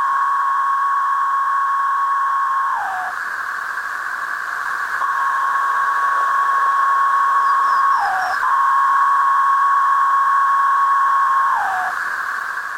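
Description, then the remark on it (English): Male periodical cicadas drone in a loud, steady, buzzing chorus of calling and courting songs, made with a pair of ridged timbal membranes on the first abdominal segment, with a male's pitch dropping in short downward slurs every few seconds; no talking, just the continuous insect whine. “Calling and courting songs of the Major Cicada tretisson.”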